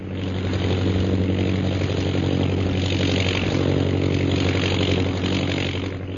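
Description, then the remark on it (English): A steady propeller airplane engine drones continuously at a constant, loud level, its low throbbing hum and airy roar unbroken throughout, with no voices present; the plane is high over the hills of Upper Burma. “Jungle Jim and Shanghai Lil are in a plane which is high over the hills of Upper Burma.”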